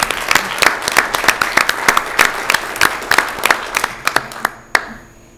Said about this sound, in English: So let's, is it okay if we give them all a round of applause? Because they did a great job.